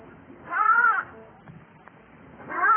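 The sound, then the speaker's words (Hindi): A sheep, its wool tangled in thorns, bleats twice on seeing the shepherds, each call a wavering, nasal cry of about half a second with a quiet pause between; the second bleat is cut off at the end. No one speaks. “जब भेड़ ने गड़रियों को देखा तो बड़ी प्रसन्न हुई। उसने एक बार फिर आवाज दी।”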